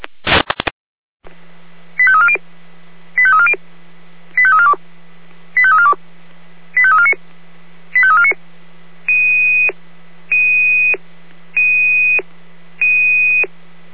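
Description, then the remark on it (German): A brief burst of noise, then a long run of emergency dispatch alert tones from the Jena dispatch centre (Leitstelle Jena), alerting crews to a person injured at a railway level crossing, kilometre 42 towards Orlamünde: six quick rising multi-tone chirps followed by four steady high beeps, evenly spaced over a low constant hum, with no voices. “Achtung, Achtung, hier Leitstelle Jena mit Einsatzalarm für alle alarmierten Kräfte.”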